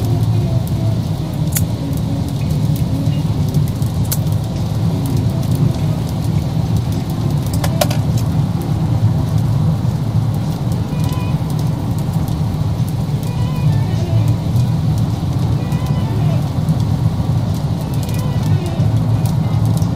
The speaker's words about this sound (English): So if I haven't mentioned it already, it is raining outside. It's, who knows.